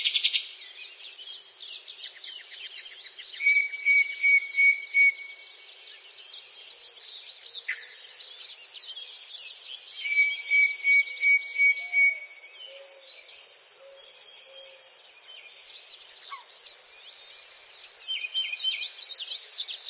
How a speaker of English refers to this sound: But today, rather than tell you all the great things about Bird Note, we're going to let our feathered friends do the talking. Enjoy this minute of uninterrupted bird song.